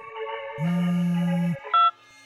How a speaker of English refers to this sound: That ringtone. That stupid, tortuous Halloween ringtone. I heard it again one night after work.